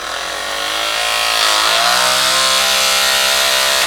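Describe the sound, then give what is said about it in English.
A vortex shaker made from a drill attached to a vortex adapter spins sample tubes held horizontally, shaking soil samples to separate DNA: a loud motor whine that revs up over the first second and then holds a steady, buzzing pitch, with no talking. “And we turn the device on. It's just a drill attached to this, a centrifuge, wow. Or a vortex adapter.”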